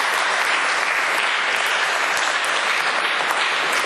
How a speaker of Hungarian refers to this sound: Aztán van még egy születésnaposunk, aki ma hány éves? 7. Ő ma 7 éves. Érte is imádkozunk ebben a szentmisében. Tapsoljuk meg őt is.